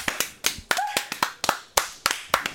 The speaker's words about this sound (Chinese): 我们来给自己一个掌声。